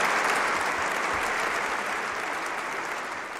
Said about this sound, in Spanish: don Abilio, como nuevo obispo, se dirigió a la cátedra desde donde ejercerá su ministerio, donde se sentó y recibió el báculo episcopal. En ese momento, el pueblo acogió a su nuevo obispo con este caluroso aplauso.